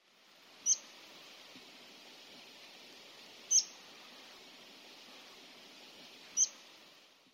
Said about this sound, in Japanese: シメです。